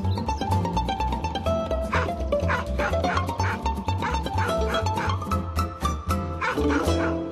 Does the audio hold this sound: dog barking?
yes